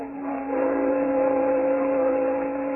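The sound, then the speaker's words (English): A ferry boat's engine drones steadily with a low, humming tone that swells slightly after the start and holds constant, fairly loud, with no voices, as the ferry crosses the North River back to New York. “Coming back to New York, they took the ferry boat across the North River.”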